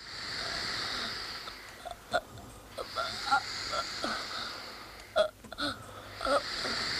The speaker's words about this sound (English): And it's not a sudden death either. The boy kind of gasps for air over a long period of time before dying.